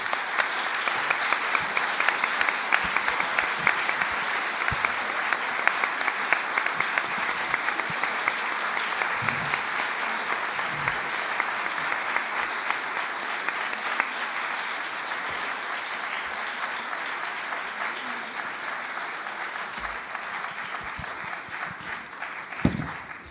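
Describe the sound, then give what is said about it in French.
Sustained applause from a large audience after a lecture on fatigue by Éric Fiat, a dense, steady patter of many hands clapping that holds its level for over twenty seconds before tapering slightly at the end, with no voices over it. “À travers ces applaudissements, vous bénéficiez à l'évidence d'une restauration de la fatigue que vous commenciez, disiez-vous, à éprouver, et pouvoir tirer de cette fatigue tous les avantages que vous nous avez brillamment décrits”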